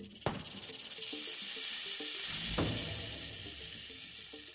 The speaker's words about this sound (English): The rattlesnake will hiss loudly and rattle its tail to frighten enemies.